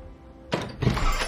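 A shop's front door is opened: a sharp clunk of the latch, a second heavier thunk moments later, then a brief rush of rattling noise as it swings.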